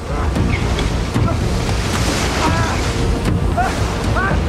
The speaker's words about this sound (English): Wind and rain pummel the boat as the wheel goes unmanned.